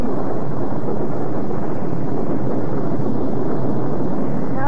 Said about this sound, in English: This storm is getting down to business now.